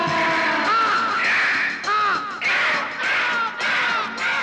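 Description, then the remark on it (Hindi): A crow caws repeatedly and loudly close by, a series of harsh, raspy calls following one another with barely a pause, with no talking over them. “दुनिया भर की सैर को देखो, निकला है ये कौवा, उड़ते उड़ते इस नगरी में आ पहुंचा है कौवा।”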